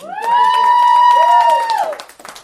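An audience claps in a steady patter while a loud, sustained high cheer rings over the applause for about two seconds, then dips in pitch and fades as the clapping thins out.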